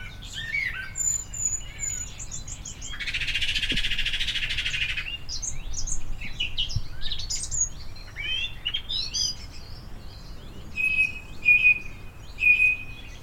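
Birds sing in a lively outdoor chorus of varied chirps, trills and short whistles, with a dense buzzy trill early on and clear repeated whistled notes near the end; no one speaks.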